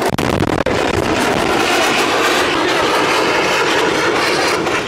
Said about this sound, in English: That explosion you just heard was the sound of Israeli troops blowing up a missile dump. It was hidden in plain sight by Hamas terror chiefs on the golden sands of a Gaza beach.